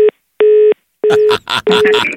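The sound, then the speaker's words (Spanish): A telephone's disconnect tone beeps in short, evenly spaced pulses after a call is hung up, loud. Voices begin talking over the last couple of beeps. “Bueno, entonces te voy a colgar, pues ya no quiero hablar contigo.”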